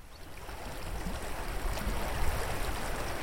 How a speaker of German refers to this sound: Es plätschert in der Breite an allen Ecken und Enden. Das Quartier, ganz im Nordosten von Grossbasel, hat so viel Wasser an seinen Grenzen wie kein zweites in der Stadt.